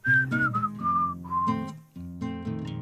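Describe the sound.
A clear whistled tune of several short gliding notes, fairly loud, plays over a steady musical backing of sustained chords that continues after the whistling stops.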